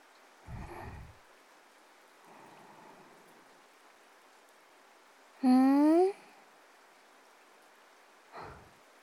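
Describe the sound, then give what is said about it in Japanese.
Steady rain hisses softly throughout, interrupted by a few brief muffled thumps and a short, louder rising tonal squeal partway through. “雨で濡れて寒かったからさ、気持ちいい。”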